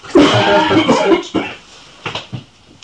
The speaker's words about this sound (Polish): Muszę, bo czasem złapię kaszlanie.